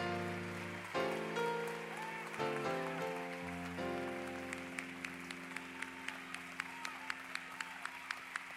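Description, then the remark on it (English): A crowd at a conference claps steadily when asked to clap their hands, a dense patter of many hands over sustained organ-like chords, with sharper rhythmic beats cutting through in the second half. “Somebody clap your hands. No. Really clap your hands.”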